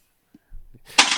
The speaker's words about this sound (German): Oh. Upsal, jetzt ist das Handy umgefallen. Handy umgefallen.